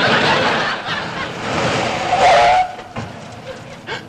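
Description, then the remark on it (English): Thunderbolt Swenson's new car roars in with a loud rushing noise and comes to a stop with a brief, high-pitched tire screech, followed by a few softer knocks. “That's the new car he got when he signed his new 5-year contract.”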